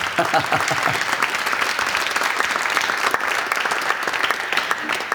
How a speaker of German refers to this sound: Klasse. Dein Applaus.